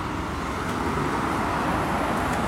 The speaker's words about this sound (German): Ah, jetzt ist die Fähre wieder gekommen, wie man hört. Kommen ja doch eine Menge Autos hier angefahren.